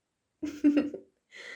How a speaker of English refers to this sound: Oh, God. Watch me burp in the middle of the recording.